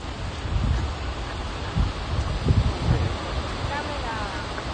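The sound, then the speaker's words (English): A waterfall roars continuously, heard from the bottom of the falls amid drenching spray, a dense, unbroken wash of rushing water and falling spray, with occasional low gusts buffeting the microphone. “I'm down here at the bottom being absolutely drenched by spray.”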